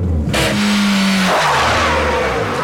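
A car reversing quickly, its engine revving into a loud, steady roar with a sustained mid-pitched whine that drops slightly partway through. No voices are heard.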